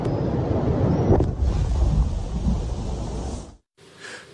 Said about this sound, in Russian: А это уже один из взрывов мины на берегу неподалеку от станции из-за хлынувшей воды. Часть оборонительной линии российской армии.